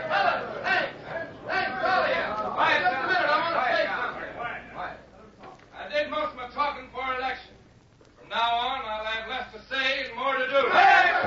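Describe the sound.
A crowd murmurs and chatters, many voices overlapping in a steady, fairly loud wash that comes in three bursts separated by brief lulls.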